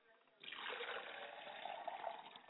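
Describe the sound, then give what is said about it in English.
Liquid is poured onto the ground as a libation toward the east in a steady, continuous splashing stream that starts abruptly and runs on without pause, moderately loud, with no talking over it. “I pour libations to the east, and I say Ashe.”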